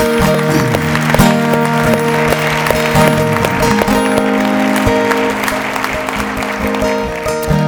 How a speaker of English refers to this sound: let's give God a hand clap of praise today.